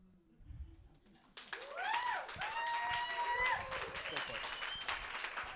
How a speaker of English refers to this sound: Now... keep clapping, she earned it.